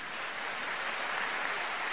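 A crowd applauds the presenters at the end of an Amway Business Institute presentation, a dense wash of many hands clapping steadily at an even, moderate level with no pauses and no voices.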